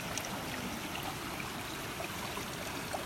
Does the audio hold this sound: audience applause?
no